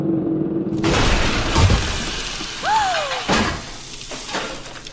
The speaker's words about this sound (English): After hours of dirt and sweat, the drill bursts through the floor of Vault 101 directly into the bashful blonde's room.